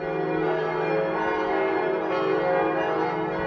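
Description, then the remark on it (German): A full peal of nine harmonically tuned church bells rings continuously from a church tower built in 1755, many tones overlapping into a dense, sustained, resonant wash at a steady, fairly loud level, with no voices. “In seinem Inneren beherbergt er die Sakristei und ein harmonisch aufeinander abgestimmtes Geläut von 9 Glocken.”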